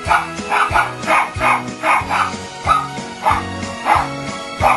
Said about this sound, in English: Teddy. That's my show dog, little Teddy the Poodle. He did a performance just for this show.